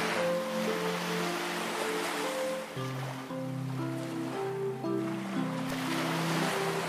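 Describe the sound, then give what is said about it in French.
Ocean waves wash in and out as a steady, broad hiss that swells and eases, blended with soft, sustained low musical tones. No one speaks. “Ta respiration par le nez et le son de la vague qui va.”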